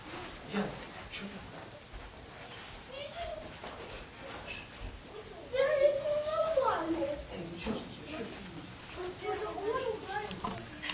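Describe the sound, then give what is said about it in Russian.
Children's voices squabble somewhere in the background, fairly faint and muffled, with a louder, higher-pitched outburst around the middle before settling back into scattered bickering. “Так, у детишек там разборки пошли.”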